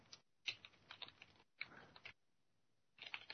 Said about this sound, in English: I'm typing. You might be able to hear me. I'll finish in just a second.